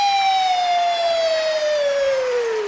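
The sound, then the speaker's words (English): A voice imitates a police siren with one long, loud wailing tone that slides slowly downward in pitch, held steadily for a few seconds with no talking. “And the cars would come rushing across town, be woo, woo, woo, woo, woo.”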